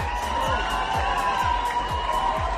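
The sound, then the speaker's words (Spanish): A large crowd at the centre court in Montreal roars and cheers as Rafael Nadal arrives to play Daniel Evans, in a steady, dense wash of noise, with deep rhythmic thumps about twice a second, like synchronized clapping or stomping, under shouts and whoops. “Entre ovaciones y gritos, luego ha saltado a la pista para jugar ante Daniel Evans con la lluvia de protagonista”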